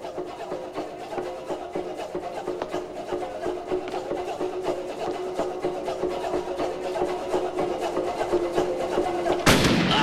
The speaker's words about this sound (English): She fires right through the door.